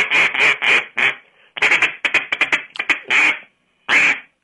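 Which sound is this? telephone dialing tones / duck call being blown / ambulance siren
duck call being blown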